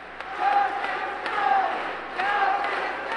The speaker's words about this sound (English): He announced his intentions from the same Cleveland council chambers where he began his political career more than 30 years ago. A hand-picked crowd of supporters greeted him with a standing ovation, clapping and chanting, "Go, Dennis, go."